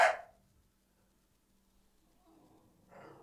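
A dog gives one sharp bark, followed by near silence and then a faint, muffled rustle or huff toward the end.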